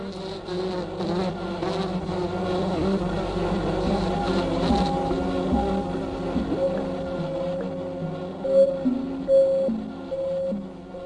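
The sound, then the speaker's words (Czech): A dense, continuous buzzing drone of a honeybee swarm, loud, with a steady hum and occasional higher tonal whines rising and falling as the whole swarm lifts off together, led in flight by scout bees that know the way to the chosen site. “To je okamžik, kdy se celý roj zvedne a pátračky, které znají cestu k vybrané lokalitě, řídí celý roj při letu zvoleným směrem.”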